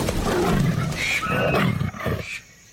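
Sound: tiger roaring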